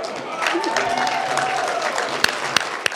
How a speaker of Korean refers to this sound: 그리고 그림을 공개하자 사람들의 박수와 환호가 쏟아져 나왔습니다.